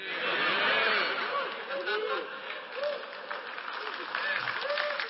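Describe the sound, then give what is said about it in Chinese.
A church audience claps steadily for about five seconds during a sermon, a dense, even wash of applause with scattered laughter and murmuring voices mixed in throughout. “你们为这个鼓掌，别这样鼓励我好吗？”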